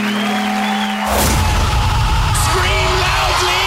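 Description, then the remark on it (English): A loud crowd bursts into cheering after a second of low humming tone, with yells and whoops rising over a steady roar of applause-like noise. “Now cheer.”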